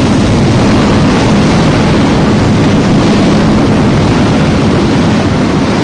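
Loud, steady rushing of rough water as waves come in over the sides of boats, a dense roar with heavy low rumble and hissing spray, continuous throughout, no voices.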